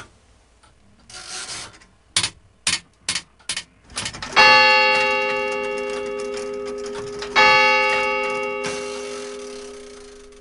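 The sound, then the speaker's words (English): A mechanical clock ticks loudly and steadily, a brief run of sharp clicks, followed by two resonant bell strikes that ring out and slowly decay. “And I would rather, I'd rather rely on an internal clock than a machine, though this is certainly a beautiful machine.”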